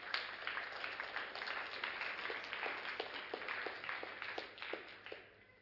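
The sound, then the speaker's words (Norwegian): A crowd applauds as a man comes up to the front, many hands clapping at once in a dense patter that holds for several seconds before thinning out near the end. “Så bare gi en applaus når han kommer fram her.”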